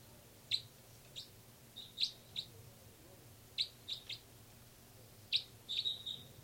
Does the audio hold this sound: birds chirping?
yes